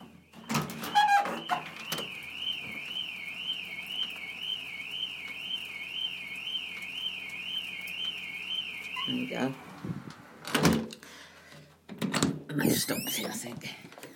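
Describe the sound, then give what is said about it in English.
A car alarm wails outside during severe rainy weather with a steady warbling siren tone for several seconds, moderately loud, with some clatter and movement noises before and after it stops. “Don't know if you can hear that. It sets someone's alarm off.”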